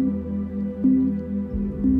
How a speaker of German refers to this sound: Während du weiter ruhig atmest, hör auf den Klang, der sich nun abwechselnd in deinem linken und deinem rechten Ohr bewegt.